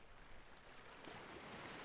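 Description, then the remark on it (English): Soft, steady wash of ocean waves lapping against sand, a gentle rushing hiss that swells slightly partway through. Quiet and continuous, with no voices. “And yet, despite all this beautiful scenery, the one thing that still sticks out above all, as you close your eyes, it's the sound of the waves lapping up against the sand,”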